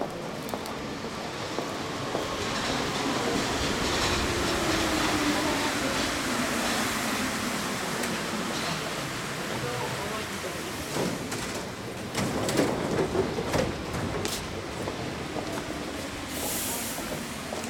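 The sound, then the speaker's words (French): A Paris metro train rumbles steadily along the rails, its motor whine gliding in pitch, with clattering and a burst of louder rattling near the end, all heard from inside the carriage. “Le métro de Paris, c'est l'âme de Paris.”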